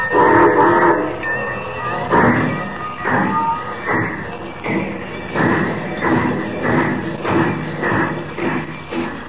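A steam train carrying a cargo of gold pulls away, starting its trip to Metropolis. Its engine chuffs in regular heavy bursts that build into a steady rhythm, with a whistle-like tone riding over the loud rumble.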